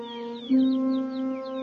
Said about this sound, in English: Do you hear that? That's those young birds chirping for their mama that's never coming back.